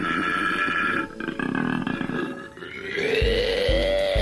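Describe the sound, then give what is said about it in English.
A koala's mating bellow: a loud, continuous, throaty grunting with rasping, snore-like tones that ends in a series of deep, pulsing belch-like grunts. No one speaks. “We've got all your favorites, including the toad, the bellbird, wolves, and of course, the koala.”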